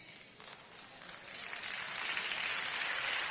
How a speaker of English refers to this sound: It took y'all a long time for the 15 of y'all to clap. Some people didn't even pick their hands up to clap, didn't thought about it.